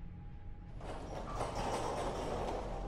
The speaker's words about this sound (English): It was the heater. A heater that sounds just like a garage door opening.